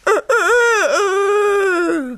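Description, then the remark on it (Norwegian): A rooster standing on a dung heap and flapping its wings crows once, loud: a short clipped note followed by a long, drawn-out call that dips in the middle and trails off, with no other sounds around it. “Det var en gang en hane som sto på en møkkhaug og gol og flakset med vingene.”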